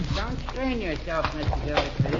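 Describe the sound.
Horses clip-clop at a steady walk beneath overlapping voices, the hoofbeats partly buried under the chatter.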